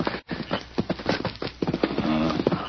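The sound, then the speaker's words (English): Horse hooves clip-clop in a steady rhythm as a horse is brought up, a quick run of sharp knocking beats with a brief muffled tone near the end and no talking over them. “Bring up the horse to Dan.”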